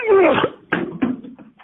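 A cat gives one clear meow with a drawn-out falling tone, followed by two short knocking thuds and some faint rustling.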